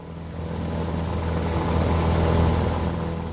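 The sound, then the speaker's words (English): A crop-spraying plane spraying coca crops in Colombia drones steadily, a low humming roar with a broad rushing wash that swells slightly midway, with no voices. “Aircraft spraying coca crops in Colombia.”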